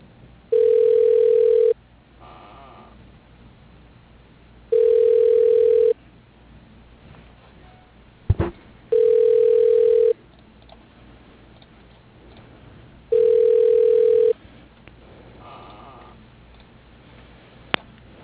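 Phone line tones as a call is transferred to voicemail: four steady, mid-pitched ringing tones, each about a second long, repeat at even intervals over quiet line hiss, with a sharp click partway through.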